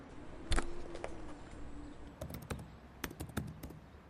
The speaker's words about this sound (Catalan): En Ramon va teclejar unes quantes comandes al seu terminal de seguretat.